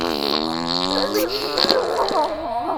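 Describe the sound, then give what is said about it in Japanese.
A long, squeaky fart sound with a wavering, whiny pitch, fairly loud, stretching almost three seconds without a break. “はい、おならこきます。臭いおなら。”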